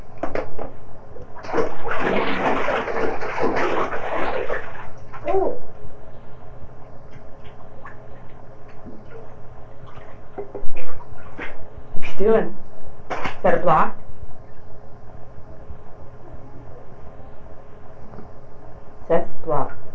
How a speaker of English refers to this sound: Splash and splash. Splash and splash.